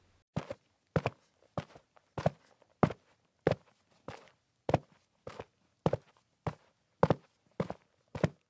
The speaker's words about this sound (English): Footsteps! They approached from Josie's left, in the dark.